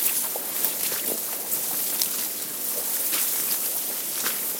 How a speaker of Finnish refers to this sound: Kuulette varmaan, mä kävelen tässä rannassa tässä kaislojen seassa. Kuunnelkaa tätä.